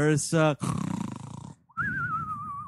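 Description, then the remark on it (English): A voice imitates a cartoonish snore, starting with a couple of short grunts, then a loud rattling, pulsing inhale and a wavering whistled exhale, with no other talk. “I'm gonna actually object to your snore for the first time in this entire podcast history.”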